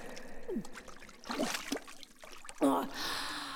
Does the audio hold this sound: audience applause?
no